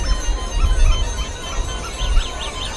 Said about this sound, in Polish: I tak jak poprzednia grupa, też poprzez dźwięk dzwonków dajcie wyraz swojej radości.